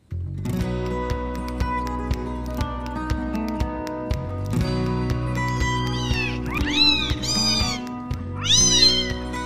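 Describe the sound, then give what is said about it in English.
A kitten meows several times in high, rising-and-falling cries, layered over a steady, upbeat music track with a regular beat; the meows cluster in the second half. “It's National Kitten Day.”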